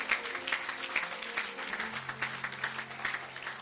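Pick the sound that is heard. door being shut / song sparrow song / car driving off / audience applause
audience applause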